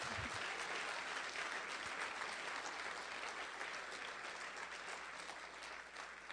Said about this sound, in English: Very big thank you to Adobe, who are providing the reception this evening. All you have to do is pick up a couple of... bigger round of applause for Adobe, actually.